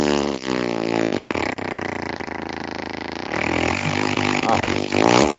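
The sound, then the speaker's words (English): A long, loud, wet fart sputters for several seconds, its buzzing pitch wobbling and breaking into rough, flappy bursts before a final squeaky push. “That was a loose one. Somebody had Taco Bell.”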